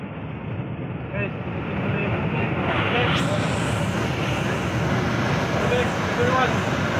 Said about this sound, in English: This is what it looks like to fly past a giant thunderstorm in a plane.